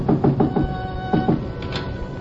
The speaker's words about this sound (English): Still in front of me when I knocked again at Shinyoke's back door.